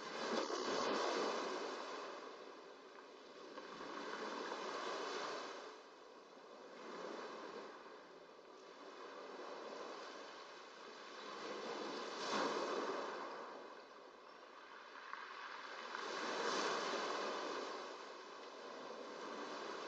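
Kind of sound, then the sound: nature, ocean waves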